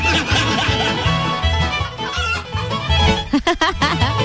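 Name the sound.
chickens clucking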